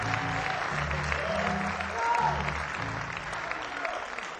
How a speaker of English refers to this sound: So nice round of applause